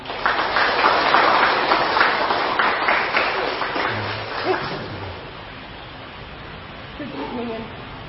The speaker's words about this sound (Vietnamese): Để đón chào bà đó thì mời tất cả tăng đoàn các Phật tử dành dâng cao tràng pháo tay.